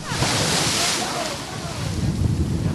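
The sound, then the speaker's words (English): Rough surf off New York City churns and crashes in a steady, loud roar around the boat American Princess while gusts of wind buffet the microphone, on a gray, misty day in early November 2017 with spitting rain at about 45 degrees, filling the low end with rumbling noise and a broad hiss across the top. “The sky is gray and misty, with spitting rain, about 45 degrees, and rough waters.”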